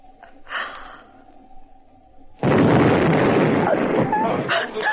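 explosion outside

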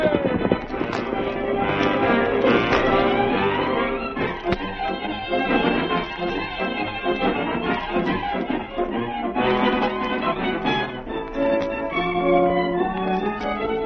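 horses galloping hoofbeats

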